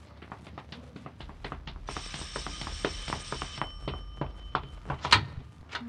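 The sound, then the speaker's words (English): A doorbell rings in one bright, sustained metallic burst lasting about two seconds, set against a steady run of sharp taps like hurried footsteps. No one speaks. “Doorbell! I'll get it.”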